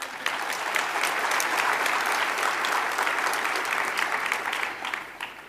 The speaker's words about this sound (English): This beats last year's convention record by one person. So I'm glad you applauded before I tell you this.